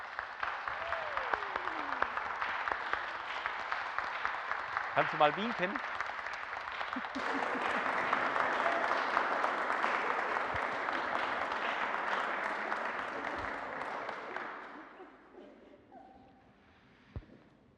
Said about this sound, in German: Vielleicht dürfen wir unser neues Gemeindemitglied mit einem kräftigen Applaus begrüßen.